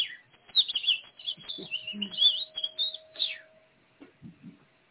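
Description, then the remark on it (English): A small bird chirps rapidly in a quick run of high, bright tweets lasting a few seconds, fairly clear, with a faint steady tone underneath and a few low murmurs near the end. “It's like a little bird. Did you hear it?”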